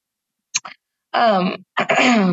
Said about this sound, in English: excuse me. I have like a bit of a cough. I don't know what's going on, but excuse me if I do cough and you can't hear. I'm sorry about that.